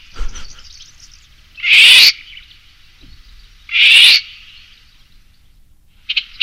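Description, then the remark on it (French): A golden oriole's alarm call, given when it is disturbed in its home area: harsh, rasping, cat-like screeches. Two loud calls come about two seconds apart and a third is just beginning at the end, with faint birdsong behind. “Et c'est le même. Et souvent, on ne sait pas que c'est lui, hein. C'est-à-dire que si on ne connaît pas les cris des alertes... Et ça, c'est le loriot.”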